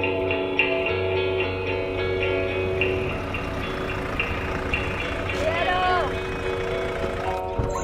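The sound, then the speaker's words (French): A car engine hums as the vehicle arrives and manoeuvres, with a steady run of short, regular beeps sounding throughout and a brief rising whine near the end. “Aujourd'hui, troisième épisode, on arrive en voiture.”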